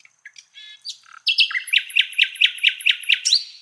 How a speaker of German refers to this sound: Sie hören Stadt der Nachtigallen.